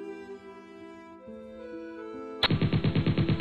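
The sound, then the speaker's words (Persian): A sustained, tonal musical passage abruptly gives way to loud bursts of rapid machine-gun fire, shots rattling in a fast, steady rhythm, depicting the battle on the bridge at Bandar Khamir. “صدای گلوله ها، غرش توپ ها و بوی بارود.”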